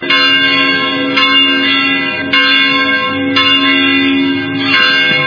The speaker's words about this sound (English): Church bells rang in Sudan's capital of Khartoum last week as Christians celebrated Christmas as a publicly recognized holiday for the first time in 10 years.